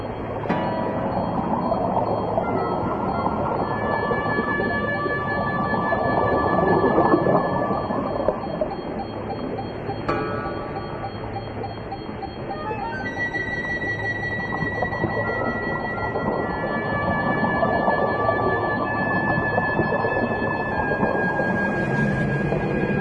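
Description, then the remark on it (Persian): Steady electronic tones from divers' tracking devices following a box's signal hum over a deep, churning underwater rumble, with more high tones layering in during the second half as the signal grows louder. “صدای سیگنال بیشتر و بیشتر میشه.”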